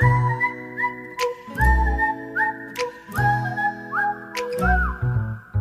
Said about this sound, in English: has his pitch whistle out. He's been warming up the pipes.